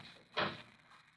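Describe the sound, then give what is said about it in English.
A single short clunk of a door being unlocked and pushed open, fairly soft, with a faint background hiss and no voices. “I unlocked the door and opened it.”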